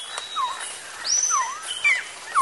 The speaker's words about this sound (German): das war eben dieses Echo von dem Klatschen, das, hat er festgestellt, hat eine auffallende Ähnlichkeit mit dem Ruf des Quetzals, eben jenes Vogels, der dort in den Nebelwäldern der Halbinsel Yucatan unterwegs ist.